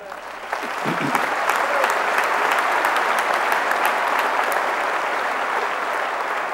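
An audience bursts into steady, sustained applause, many hands clapping together in a dense, even roar that swells quickly and holds at full strength throughout.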